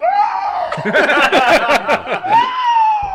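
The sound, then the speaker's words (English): A voice imitates a screech of distress, a high, strained, wavering cry that rises and falls at the start and returns near the end, with bursts of breathy laughter in between. “Did that sound like a screech of distress to any of you?”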